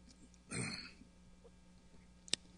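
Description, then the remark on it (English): A speaker pausing during a sermon takes a quick drink of water, a short soft gulp and breath, followed after a pause by a single sharp click like a bottle or glass being set down. No talking. “Lift your hand and praise the Lord while I take some more water here.”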